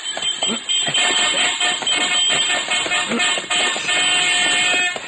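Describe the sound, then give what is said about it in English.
Dense traffic on a busy street in broad daylight rumbles steadily, with car horns honking in short bursts and longer tones over the engine noise, loud throughout. “I risked my life ducking through traffic in order to get across the street and keep Angie in sight.”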